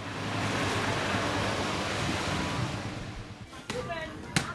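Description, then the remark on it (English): Steady sloshing of water as villagers wash soybeans by sloshing them around in huge tubs full of water, a continuous splashing wash that fades after a few seconds, followed by a couple of sharp knocks. “The villagers that are working here, stripped to the waist and sweating as they slosh the beans around in these huge tubs full of water next to these massive oil barrels with wood fires smoking underneath them.”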